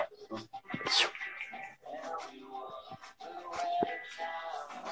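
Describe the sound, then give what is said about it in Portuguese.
Dogs whimpering and whining in short, high-pitched bursts, with shuffling and movement sounds filling the gaps between cries. “Enquanto isso, eu vou colocar os cachorros aqui para fora, que eles já estão...”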